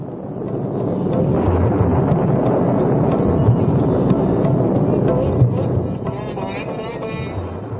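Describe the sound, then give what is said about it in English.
A deep, continuous rumble of thunder rolls on for several seconds, loud and broad, swelling slightly midway before easing off, with a faint hiss of wind or rain beneath it, at the start of the rainy season while lightning flashes on the horizon. “The sky began to rumble with thunder, and lightning flashed on the horizon.”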